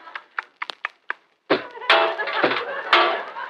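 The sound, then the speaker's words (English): A moth chewing on an overcoat: about eight quick, dry crunching taps, then a louder, continuous gnawing and rustling with a few heavier thuds mixed in. “Even the sound of a moth chewing on an overcoat.”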